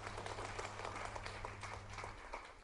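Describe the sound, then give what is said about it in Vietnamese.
Steady applause of encouragement from an audience, a dense wash of many hands clapping at even loudness throughout, with a low hum underneath and no voices. “Cho một tràng pháo tay động viên.”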